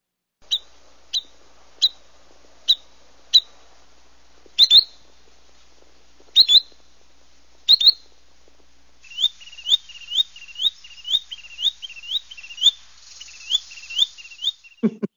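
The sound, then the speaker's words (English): A spotted bird, a little bigger than a robin, calls with sharp, high whistled notes, spaced singly and then in pairs, before breaking into a fast run of rapid-fire chirps at the end. The calls are loud, with no talking. “I like that sort of rapid fire ending to that bird call.”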